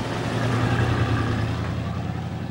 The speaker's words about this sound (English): With a curious frown, she ducks her head back into the truck and drives away.